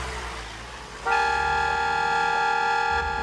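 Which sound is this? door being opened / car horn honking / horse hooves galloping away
car horn honking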